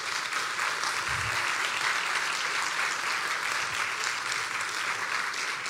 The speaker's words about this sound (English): If you were a full-time volunteer at RFK this summer, would you stand up for us? Could we just give these volunteers a round of applause, please?